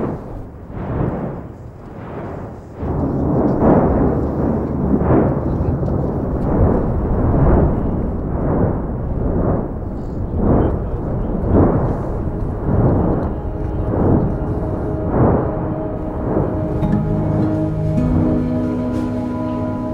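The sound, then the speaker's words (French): Deep, powerful rumbling with repeated sharp explosive bursts every second or so, a volcano crackling and blasting continuously, loud, with a constant low roar underneath and no voices. “le bruit d'un volcan qui craque en permanence et explose est quelque chose qu'on n'entend jamais ailleurs”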